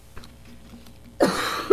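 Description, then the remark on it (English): After a second of near silence, a sudden harsh burst like a sneeze or cough breaks out in a courtroom, breathy and loud, ending in a short second catch. “Bless you.”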